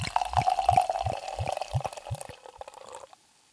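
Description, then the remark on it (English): Cider glugs steadily out of a bottle into a glass, a rhythmic series of about seven gurgling pulses over a bubbly splash, then it stops abruptly. No one speaks. “And I'll do a little bit pouring so everybody could hear.”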